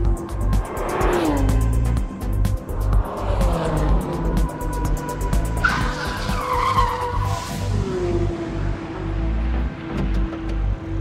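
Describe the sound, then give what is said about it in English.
A car engine roars loudly and continuously while tires squeal repeatedly through several hard turns and braking, the pitch sweeping up and down as the car races a lap around the Nürburgring track. “after Nicolas finished his own lap around the track”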